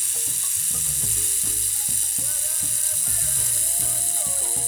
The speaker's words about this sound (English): Make a rain stick. First, make the rain stick. Then, move it from side to side, up and down, and listen to the rain.